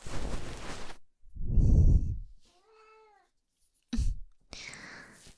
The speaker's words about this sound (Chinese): 这是人家店里的小猫，先生喜欢。